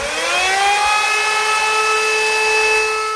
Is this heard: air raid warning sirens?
yes